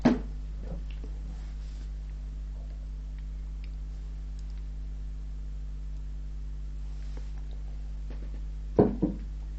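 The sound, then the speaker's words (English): Someone sips water: a soft knock and slurp at the start, a long quiet pause over a steady low hum, then another brief clatter and swallow near the end. No one speaks. “Again, let me just have another sip of the water here.”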